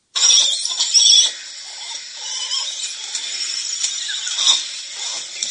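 High, thin squeaks and squeals from langur monkeys chatter almost continuously, loudest in a burst at the start, then a steady, busy stream of overlapping shrill calls with occasional sharper peaks.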